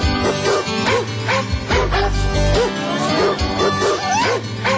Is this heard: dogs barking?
yes